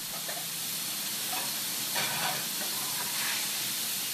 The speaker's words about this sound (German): In einer Pfanne brutzelt das Stück Kalbfleisch, das in ein paar Minuten als Schnitzel auf den Teller kommt. Es stammt von einem Bauernhof, gerade einmal ein paar Fahrminuten entfernt.